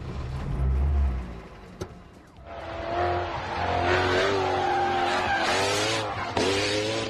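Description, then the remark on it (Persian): A turbocharged petrol Lexus test car's engine idles low, then a brief mechanical clunk as it is put into gear, followed by the engine rising steadily as the vehicle pulls away, with a faint hiss of tires building underneath. “خب حالا گیربوکس رو درگیر میکنیم و شروع به حرکت میکنیم.”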